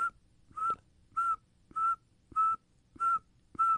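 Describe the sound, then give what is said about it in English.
A person whistles an imitation of a northern saw-whet owl's call: six steady, mid-high toots repeated at an even pace, about two per second, with brief gaps between and no talking. “But if you're going to make me imitate one, it would be the northern saltwood owl, because it just sounds like.”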